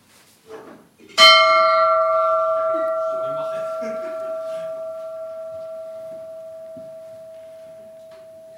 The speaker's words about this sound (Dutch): ik wil niet zeggen als raadsoudste, maar wel als lid van de raad de gong te luiden waarna wij een moment van stilte nemen.